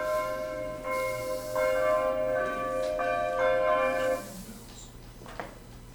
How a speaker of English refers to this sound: So at any rate, that's the bells of Tezay that call us to worship. I'll advance it to Psalm 31 in a moment here after you hear the bells.